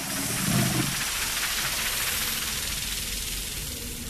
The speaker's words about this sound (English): The sprinklers switch on.